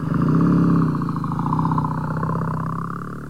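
A motorbike engine revs with a steady, throaty rumble, holding loud before easing slightly as the motorbike begins to pull away.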